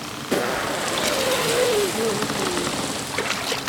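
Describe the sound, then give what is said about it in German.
An elephant blows water from its trunk, water it sucked up from a boat during rain and now blows out into the sea, in a loud, steady whooshing spray that starts abruptly and hisses on for about three seconds, with a faint wavering tone underneath. “Und jetzt puste ich es ins Meer.”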